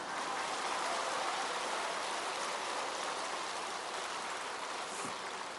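An audience claps enthusiastically, a dense, steady wash of many hands that holds at a strong, even level for several seconds, with no voices over it.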